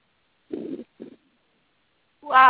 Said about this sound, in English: The bird screeched.